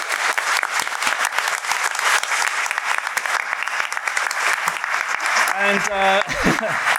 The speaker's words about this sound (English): Thank you for coming. And give yourselves a round of applause. Yeah, thank you.